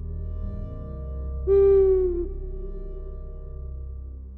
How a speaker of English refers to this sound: And as Luid cracks the reins of Skychaser and urges the horse forward, he turns and hears the dreadful hooting of an owl growing louder and louder.